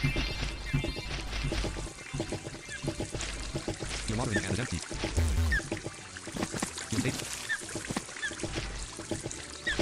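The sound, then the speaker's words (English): Water pours steadily from a pot, a continuous splashing gurgle running throughout, with voices talking and murmuring over it. “Pot to give water.”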